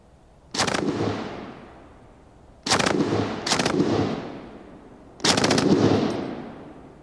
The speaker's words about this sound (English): The main thing about it is the noise. It's firing at such a cyclic rate, it's got a distinctive noise. And everyone talks about Hitler's zip, the noise, the rate of fire.